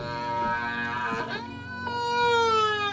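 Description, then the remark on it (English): Whale song: a sustained, moaning tonal call rich in harmonics, its pitch swooping and gliding upward then slowly sliding down, steady and fairly loud with no voices. “The revelation that whales create such diverse and beautiful calls proved that these giants were not just hunks of meat to kill and eat, but intelligent and complex beings.”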